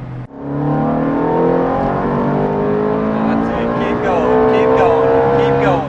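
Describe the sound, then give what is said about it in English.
A Ferrari sports car engine roars, loud and continuous, its pitch climbing steadily as it accelerates, with what sounds like a gear shift before the revs rise again. “I am scared of this Ferrari. The power it can do, the speed it can do, the fact that I need to be responsible.”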